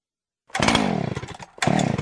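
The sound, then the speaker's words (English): A chainsaw engine roars to life, revving loudly with a buzzy, sputtering drone, dips briefly, then revs hard again. “Having trouble starting your trimmer, chainsaw, or leaf blower?”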